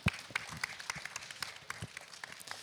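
An audience applauds an indie game designer from Studio 1999 in Brandenburg as he is introduced, with dense, steady clapping, many sharp hand claps blending into a continuous crackling wash at moderate loudness.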